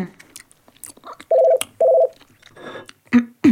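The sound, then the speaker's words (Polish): A landline telephone rings twice in quick succession, two loud, steady electronic bursts, with soft clicks and rustling noises before and after. “Dzwonek, telefon. Stacjonarny.”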